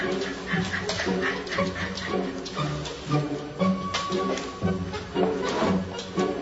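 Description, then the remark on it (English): A frightened dog, trying to hide, whimpers and whines in a steady run of high, strained cries, with a few sharper yips mixed in across several seconds and no one talking. “That dog is doing that because he's afraid.”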